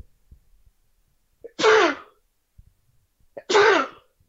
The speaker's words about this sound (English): Anyways, one second, I'm about to sneeze.